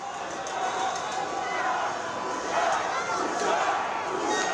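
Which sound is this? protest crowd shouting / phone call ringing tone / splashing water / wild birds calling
protest crowd shouting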